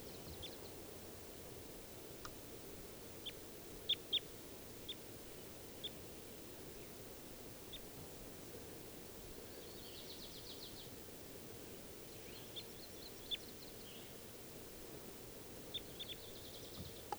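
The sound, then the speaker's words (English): At least three birds in the trees, two males and a female, call in short, high chirps and brief trilled bursts. The calling one is probably the female at the top of a tree. The calls are scattered irregularly over a steady, soft background hiss with no talking. “There are at least three birds in the trees.”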